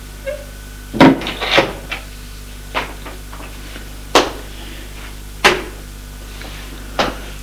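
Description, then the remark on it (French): A woman opens a door, with a cluster of wooden clunks and a latch rattle near the start, then several separate sharp knocks and thuds spaced a second or so apart. “Elle ouvre une porte.”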